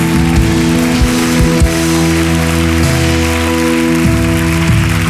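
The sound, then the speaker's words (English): An audience claps steadily and loudly for several seconds, a dense, rain-like wash of hands, while low sustained musical tones hum underneath. No one speaks. “You should probably clap like he's able.”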